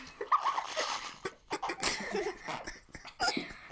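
human body sound, heavy breathing

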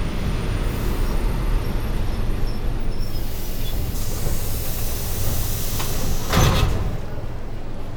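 vehicle, train arriving at platform

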